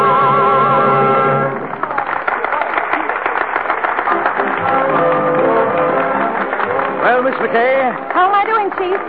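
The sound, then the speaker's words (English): After a brief sustained musical tone, steady applause breaks out and carries on loudly, a dense patter of clapping mixed with the murmur and calls of many voices. “That noise is applause, isn't it?”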